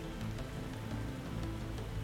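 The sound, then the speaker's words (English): Steady rain patters against windows, a soft continuous hiss dotted with faint scattered taps, fairly quiet and even throughout, with no voices. “And yet those sounds of the rain tap, tap, tapping against the windows is so soothing, relaxing, calming.”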